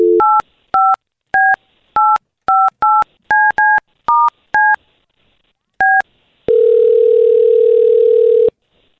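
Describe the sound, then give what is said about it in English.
A quick series of about a dozen telephone keypad dialing beeps in an uneven rhythm as someone dials a phone number to place a call, followed by a steady, loud dial tone humming for about two seconds. No voices. “We're going to call her right now, okay?”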